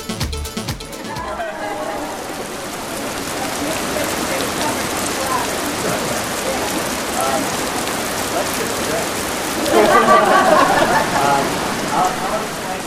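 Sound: rain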